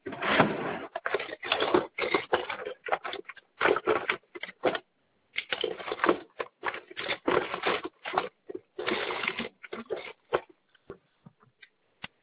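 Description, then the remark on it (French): A pen scratches across paper in quick bursts of scribbling with short pauses between strokes, heard alone with no talking, as a person picks up a pen to write down a web address. “Alors, je reprends juste un stylo.”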